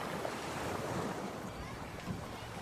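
A steady, rushing roar of surf rolls on, with wind hissing across it and no clearly separate crashes, just continuous wash of sea waves on the beach.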